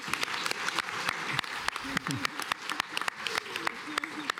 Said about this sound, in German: Du kriegst erstmal einen Applaus, finde ich.